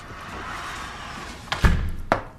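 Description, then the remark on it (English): A door shuts with a solid, low thud, with a brief click just before it and another sharp click about half a second later, heard over a quiet background hum. “Close that door behind you, please.”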